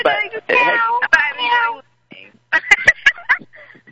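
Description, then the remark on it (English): A person imitates a cat, letting out a few drawn-out, wavering meows, followed by a burst of clicks and short voiced sounds. “Who's doing the meow?”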